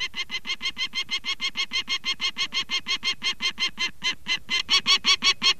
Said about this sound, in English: The peregrine falcon.